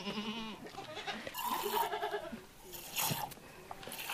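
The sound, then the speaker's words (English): A goat bleats loudly, a wavering, nasal call repeated a few times over a few seconds, with some outdoor background noise between the cries, on a farm plot where vegetables are grown and goats are kept for milking. “This is my land and I plant a variety of vegetables and I'm also milking my goats.”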